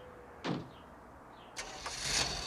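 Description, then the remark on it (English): Mrs. Frankenstein's car engine starts at the curb with a short burst of noise, then revs up into a rising, steady rush as the vehicle pulls away. No voices are heard. “As the vehicle pulls away, the view glides over to Victor.”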